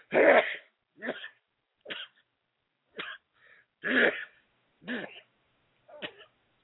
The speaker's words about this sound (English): Sorry for the sneeze right there.